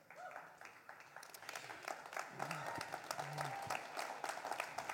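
Scattered clapping from a church audience starts thin and uneven, then fills out into steady, moderately loud applause, with a few faint voices murmuring underneath.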